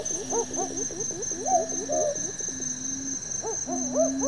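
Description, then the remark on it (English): Several birds, among them a spotted nightjar, call back and forth at night, with repeated hooting and rising, warbling notes over a steady high insect trill, no voices present. “Listen to all those birds.”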